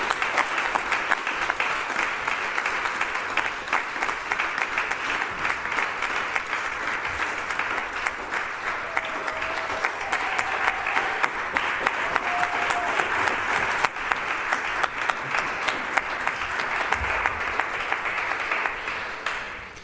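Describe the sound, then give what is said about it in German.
Sustained applause from a sizable audience at an awards event, greeting a speaker invited to give a speech: a dense wash of many hands clapping steadily for about twenty seconds at an even, fairly loud level, with no speech over it. “Mit ein bisschen Applaus unterstützen, kommt immer wieder.”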